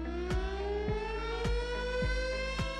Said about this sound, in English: Civil defense sirens, often used to warn of natural disasters, are designed to be loud enough to alert people in their homes from miles away. And at 135 decibels, these sirens certainly fit the bill.